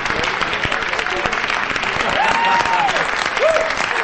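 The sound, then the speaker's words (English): An audience applauds dancers steadily and densely from start to finish, the clapping loud, with a couple of brief tonal whoops or whistles rising above it near the end. “Sally and Frank join in the applause for the dancers.”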